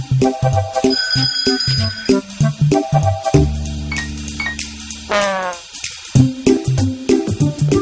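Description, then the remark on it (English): A small bell rings with a bright, high, sustained tinkle for about a second, set among playful cartoon music and bouncy sound effects, with no one speaking. It is the little bell in the Pocoyo cartoon that Ellie rings to call Pocoyo and Pato for help. “You see, Ellie, if you need anything, you can ring that little bell, and Pocoyo and Pato will come to help you.”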